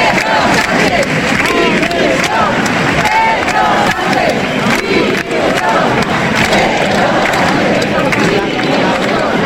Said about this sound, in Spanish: por la tarde el apoyo fue masivo con cientos de personas, unas 3.000 según el Partido Popular. Estos eran algunos de los cánticos que se escuchaban.